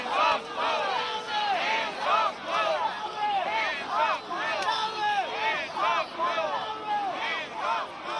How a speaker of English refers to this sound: Several hundred demonstrators gathered Thursday in New York's Times Square, chanting slogans including "Hands off Mueller" and "Nobody's above the law."